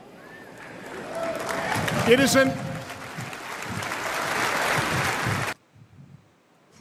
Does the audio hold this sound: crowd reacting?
yes